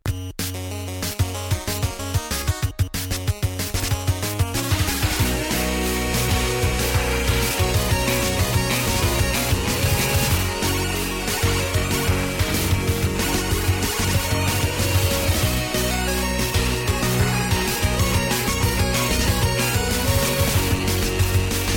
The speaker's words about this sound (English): Getting the guitar rehearsal background. I think it sounds. I got it, but it sounds cool. Okay. It sounds like. So it'll stop eventually in 30 minutes.